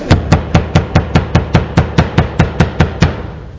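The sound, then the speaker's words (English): Peter keeps knocking on a door in a steady, rapid series of about thirteen firm, loud raps with a hollow low thud, then stops. No one speaks. “Now Peter continued knocking.”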